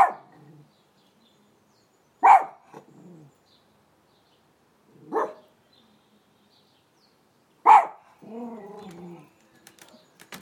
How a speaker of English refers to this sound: He's barking because Tina's doing something in her garden.